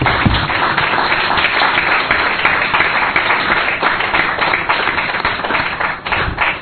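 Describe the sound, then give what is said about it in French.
An audience in the Democratic Republic of Congo applauds a woman and several men for their courage, a steady, dense wash of clapping that holds at a fairly loud level for several seconds, with no voices breaking through. “Alors, cette situation peut arriver à n'importe qui d'entre nous, mais pour une fois, je veux nous demander à applaudir à cette dame et à ces messieurs qui sont courageux.”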